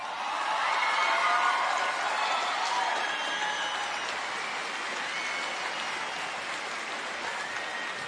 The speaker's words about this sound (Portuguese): Eu queria trazer aqui no palco uma das maiores estrelas da música popular brasileira. Queria que vocês recebessem com um aplauso bem carinhoso. …!